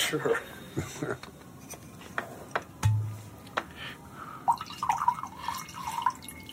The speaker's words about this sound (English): Would you like to pour out some wine for your elderly lover?